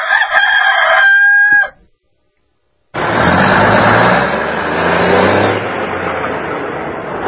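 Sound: rooster crowing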